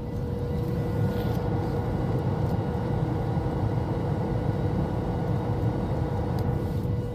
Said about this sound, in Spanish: O los propulsores, que es como se llaman los motores de los aviones.